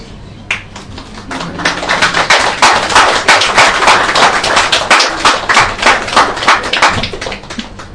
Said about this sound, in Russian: Новая традиция, опять будет хлопать после лекции.